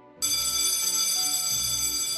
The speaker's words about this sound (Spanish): Suena el timbre y me paralizo.